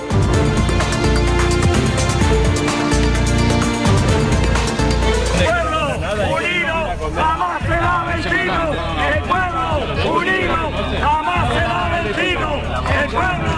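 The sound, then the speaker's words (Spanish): About twenty protesters in Parla, south of Madrid, Spain, shouting together as they block the morning eviction of a family with three small children on calle Enrique Granados; loud overlapping voices rising and falling in ragged chants, following several seconds of dense, steady music. “Son los gritos de unas 20 personas que han impedido esta mañana en Parla el desahucio de una familia con tres niños pequeños de 4, 7 y 9 años de edad, previsto en la calle Enrique Granados, número 3 de Parla.”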